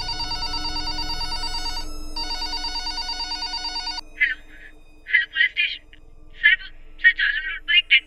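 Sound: telephone ringing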